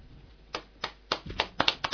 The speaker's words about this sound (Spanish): Aplausos en el estudio de Radio Menara.